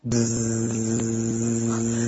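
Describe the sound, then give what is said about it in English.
A person's voice imitates a buzzing bee with a steady, droning hum held for about two seconds, loud, with no other sounds around it. “In English, bees buzz.”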